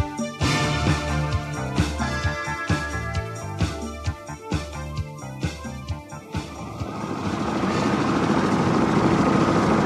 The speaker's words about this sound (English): The engine started and he couldn't hear anything else. The helicopter took off and climbed slowly into the sky.